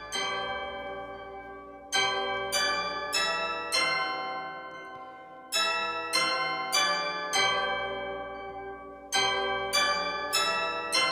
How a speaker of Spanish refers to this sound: Bueno, ya que ha nombrado el Big Ben, vamos a escuchar cómo suena el Big Ben.